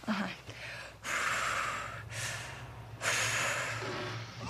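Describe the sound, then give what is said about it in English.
A woman in labor breathes heavily, forceful breaths repeating in a steady cycle, three long noisy exhalations with sharp intakes between them, loud, with a low hum underneath and no talking. “Do your breathing.”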